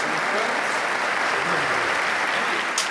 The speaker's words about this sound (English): I have a football. Three claps coming in.